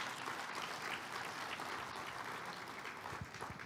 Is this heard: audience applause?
yes